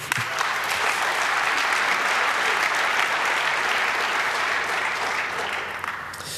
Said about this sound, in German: Und ich finde, das ist eigentlich auch ein Applaus wert.